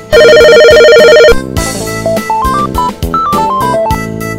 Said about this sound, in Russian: Здравствуйте. Вас беспокоит ваша персональная мобильная секретарша. Примите звонок. Вам звонят. Ответьте, пожалуйста. Шеф, вы меня вообще слышите? Звонок на линии.